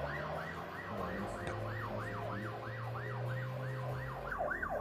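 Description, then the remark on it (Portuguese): An ambulance siren wails in quick, repeated rising and falling sweeps, about two per second, fairly loud and steady, over a low rumbling engine drone, as the ambulance drives inside the Cotolengo. No one speaks. “Lá vai a ambulância.”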